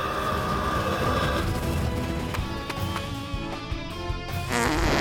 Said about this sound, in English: farts, blasting himself into the air. He bounces off the robot, drops and rolls clear.